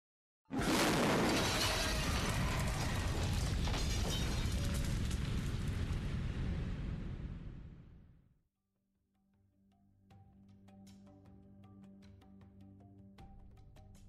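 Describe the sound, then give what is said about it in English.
A 6-pound bomb with a 40-minute timer, hidden in a handbag under a chair in a busy pub, bursts out suddenly as a huge blast, then a roaring, crackling rumble of shattering debris for several seconds, fading into quieter sustained ringing tones and scattered clicks. “In the midst of this busy atmosphere, the bomb exploded.”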